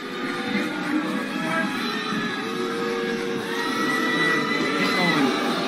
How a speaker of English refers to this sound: And it was just, it was very jarring to be at a vigil to honor these four lives and then have politicians one after the other say the same rhetoric and then watch Erin O'Toole get booed and then Doug Ford get booed.